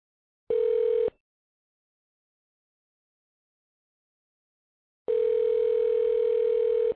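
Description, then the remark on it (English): A steady telephone dial tone sounds in two loud, clean bursts as a phone call is placed, a short one and then a longer one about four seconds later, with silence between and no voices. “we're going to get Mark on the phone, Mark Flew, and see what he has to say. So hold on, let me call him”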